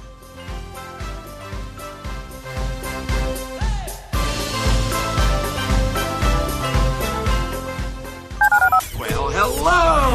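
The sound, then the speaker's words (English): A loud, busy radio music bed plays, then near the end a quick run of bright, beeping touch-tone keypresses dials a phone number for the show's listener line, followed by warbling electronic tones. “Dial the phone.”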